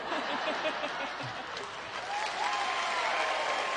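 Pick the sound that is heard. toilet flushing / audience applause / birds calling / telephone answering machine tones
audience applause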